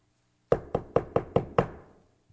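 Six firm knocks on a wooden door, quick and evenly spaced, with the last one landing slightly later and ringing out briefly. Clear, with no voices.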